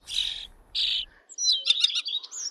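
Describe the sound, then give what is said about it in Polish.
A common starling's typical chattering song: two harsh, buzzy bursts give way to a rapid jumble of squeaky whistles and rattles. It is fairly loud, with no voices. “Akurat tutaj ten jego typ, taki świergot typowy był puszczony.”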